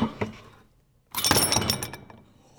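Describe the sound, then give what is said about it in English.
A short metallic rattle of the chain of an old pull-chain doorbell, about 4 feet high, a brief pause, then its lead weight drops to the floor with a solid thud and a burst of clattering chain and ringing metal that fades quickly. Fairly loud, with no voices. “With that hit to the floor, I mean, we're listening to the chain, but that hit to the floor, you'd immediately get it.”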